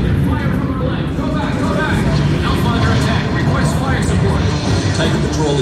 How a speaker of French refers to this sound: Donc là, il y a un film, en fait. C'est presque une super production hollywoodienne. Un hélicoptère... Des voitures au sol, plusieurs drones qui décollent.